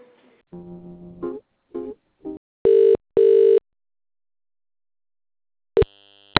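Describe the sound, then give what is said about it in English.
A telephone line during a call transfer: a few short clicks and blips, then two loud, steady electronic tones, a pause, and another brief beep, with no talking. “All right, let me transfer you to the other phone and I'll walk down and speak to her.”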